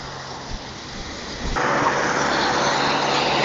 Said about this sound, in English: It's one thing to walk down this hill, quite a different thing to walk up it. But I'm a bit nervous because as I walk down the hill, the cars are coming from behind me. I can't see them coming, and the footpath is narrow.